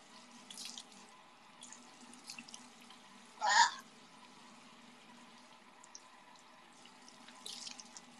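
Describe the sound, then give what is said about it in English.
A faucet runs steadily into a sink as someone washes their face, with a brief, louder splash partway through and softer water sounds at the start and end. “I'm not taking a shower, I'm just washing my face,”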